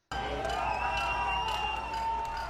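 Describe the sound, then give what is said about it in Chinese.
A dense crowd of diplomats, well-wishers and demonstrators in Washington cheers and shouts slogans as the Cuban flag is raised outside the newly opened Cuban embassy, many voices blending into a loud, continuous roar with some sustained vocal tones, holding at a constant level throughout. “在欢呼声和口号声中，外交官、祝福者和示威者都在观看古巴国旗在新成立的大使馆外面升起。”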